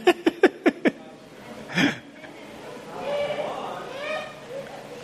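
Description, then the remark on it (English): A sheep gives a quick, stuttering bleat of about five rapid pulses, followed by a short breathy burst and then faint, muffled voices talking in the background. “I mean, the sheep are cute and we could just read”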